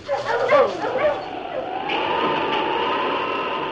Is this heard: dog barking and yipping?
yes